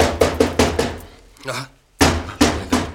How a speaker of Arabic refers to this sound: شكون شكون اللي خبط؟